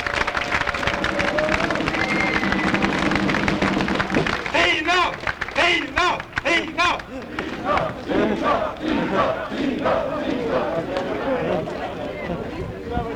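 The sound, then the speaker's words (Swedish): A loud crowd at a Sweden Democrats (SD) gathering honouring Engelbrekt cheers and shouts to welcome speaker Tina Hallgren Bengtsson, with a steady drone at first, then bursts into sustained clapping and whooping that continues throughout. “Ge henne en rungande applåd!”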